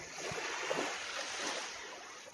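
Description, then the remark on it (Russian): A steady, broad wash of sea surf rolls onto a wide beach at low tide without a break, with no clear individual wave crashes and no voices over the rushing noise. “Красивое такое море.”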